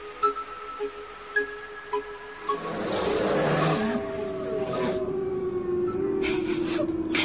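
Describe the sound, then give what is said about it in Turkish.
Wolves attacking a large animal called Koca kız: after a few seconds of quieter tonal calls and soft thuds, a loud, harsh roaring commotion erupts and continues steadily, intense, with no talking. “Kurtlar koca kıza saldırdı.”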